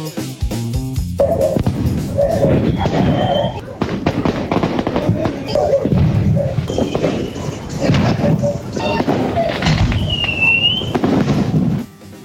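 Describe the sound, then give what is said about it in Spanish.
Fireworks burst in Chile in a dense, continuous barrage of loud cracks and booms, overlapping one another for several seconds, with some whistling rockets rising between the blasts before it cuts off abruptly. “Usted lo habrá reconocido, fuegos artificiales que lamentablemente se han repetido en distintos puntos del país, y algo similar a esto, ¿no?”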